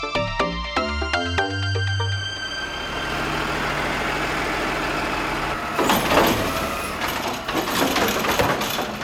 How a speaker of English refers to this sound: Well, I think it sounds more authentic when you have a garbage truck in the audio, right? Because it lets people know that you're human and that you have to deal with garbage like most humans do.